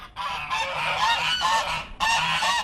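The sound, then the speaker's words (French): Several hungry geese honk insistently at a person they take for food. Their harsh, overlapping calls form a continuous noisy chorus, with a brief lull near the end before the clamor resumes. “Des oies qui ont faim et qui me prennent pour la nourriture.”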